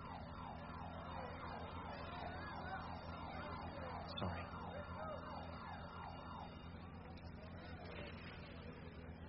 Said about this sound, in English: I triggered the alarm.